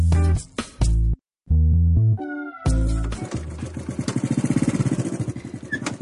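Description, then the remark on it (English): After a few short tonal notes, a motorbike engine fires up and runs with a steady, throbbing chug that grows slightly faster and louder toward the end as the rider drives off on a ride. “decided to take us out for a ride today and he's driving now.”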